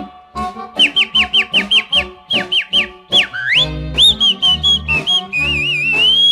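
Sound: human whistling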